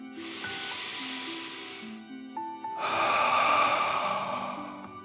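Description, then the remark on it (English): A deep, airy inhale through the nose lasting about two seconds, a short pause, then a louder, forceful breath pushed out through the mouth as if breathing fire, during a guided breathing exercise, over soft sustained background music. “Breathe in through your nose and then out through your mouth, pretending you are breathing fire. Deep breath in and out.”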